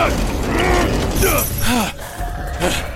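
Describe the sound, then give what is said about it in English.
A heavy door creaks and groans loudly as it swings shut, followed by the clatter of a latch mechanism catching, over a dense, noisy background. “Inside, get the door!”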